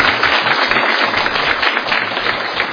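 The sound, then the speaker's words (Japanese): Sustained audience applause, a dense crackling wash of many hands clapping at a steady, fairly loud level for the whole few seconds, with no voices standing out; the audience claps again to thank a guest teacher who performed the Islamic call to prayer. “もう一回ちょっと拍手をお願いします。”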